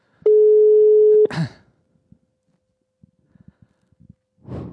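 A loud, steady electronic ringback tone of an outgoing phone call sounds for about a second, then cuts off abruptly with a clatter, followed by quiet rustling and a faint breathy noise at the end.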